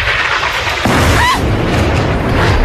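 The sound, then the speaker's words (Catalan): An Israeli rocket strikes the three blocks of the Palestine Tower in the Rimal neighbourhood of Gaza, exploding into a deep, rolling boom that sustains as a loud, rough roar, with a brief whistling tone riding above the blast. “una reportera d'Al Jazeera que, mentre feia una connexió en directe, va veure com un coet israelià impactava els tres blocs de la Torre Palestina, al barri del Rinal de Gaza.”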